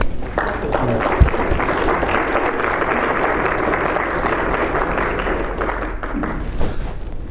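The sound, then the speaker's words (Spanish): Sustained audience applause in a parish, after the announcement that the parish will be consecrated to Saint Joseph that day: a dense steady wash of many hands clapping at an even loudness for several seconds, with no voices standing out. “¿Contentos? ¿Aplauso?”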